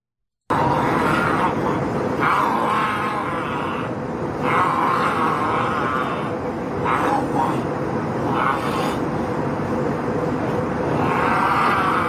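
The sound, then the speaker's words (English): A middle-aged man, upset about a mask mandate and rubbing a mask on his face, growls and groans in low, drawn-out bursts over a steady roar of airplane cabin noise, with a few muffled voices. “call him a middle-aged white gentleman who is upset about the mask mandate, and he's now like rubbing the mask on his face and growling.”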